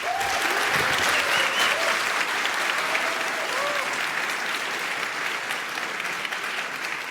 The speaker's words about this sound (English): Please give them a warm welcome applause.